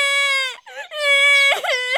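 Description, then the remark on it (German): A girl cries with big tears in high, drawn-out wails, two long sustained sobs separated by a brief quavering catch of breath, fairly loud with no talking. “Fari weinte und große Tränen rollten über ihre Wangen.”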